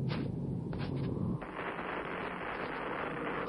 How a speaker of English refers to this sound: It sounds like an earthquake.